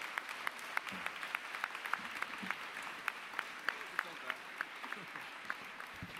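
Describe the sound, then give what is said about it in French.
An audience at a book award ceremony claps steadily for the winner, Dmitri Gloukovski, author of the winning book Soumerki, who is present; a dense wash of many hands with sharp individual claps popping out throughout, sustained at an even level for several seconds. “Voici notre gagnant, vous pouvez l'applaudir.”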